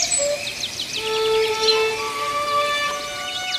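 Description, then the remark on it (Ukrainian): A lark flying around sings in a quick run of high, bright chirps and trills, steady throughout, over a soft sustained tonal hum in the background. “Жайворон літав навколо, пищав і просив, щоб кріт не чіпав його хатки, бо тоді малі пташенята загинуть.”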